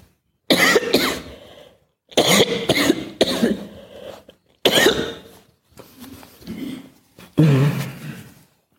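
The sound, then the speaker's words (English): A harsh coughing fit: several bouts of rough, hacking coughs, each a cluster of bursts, separated by short pauses and ending with a throaty, raspy cough. “Did I get through my talk without, you know, whooping cough?”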